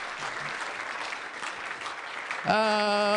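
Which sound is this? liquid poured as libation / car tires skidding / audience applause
audience applause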